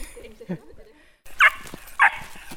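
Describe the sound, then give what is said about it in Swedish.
A female dachshund barks excitedly: two loud, sharp, high-pitched barks about half a second apart, then a softer third, following a quiet stretch of faint murmuring, as people start walking along a gravel road toward the start of a trail. “Och så är det dags för taxen Judith. Hon är vråltänd och skallar”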